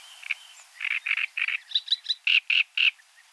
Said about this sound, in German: Ein schönes Beispiel: der Drosselrohrsänger. Konkurrierenden Männchen schmettert er eine Art Fanfarengesang entgegen.